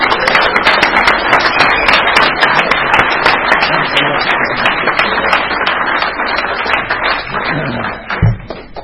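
An audience applauds steadily for about eight seconds, a dense, loud wash of many hands clapping at once that thins slightly before a final thump near the end.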